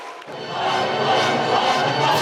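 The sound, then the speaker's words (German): An opera audience erupts in sustained booing at the staging of a new opera production, a dense, loud wash of disapproving voices that swells quickly and holds steady, with no single voice standing out. “erntet harsche Kritik und Buhrufe vom Publikum.”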